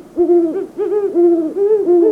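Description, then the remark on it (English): A great horned owl hoots in a steady series of deep, resonant calls, about four drawn-out hoots running almost back to back, loud and clear with no voices. “Hoots of the male great horned owl are lower in pitch than those of the female.”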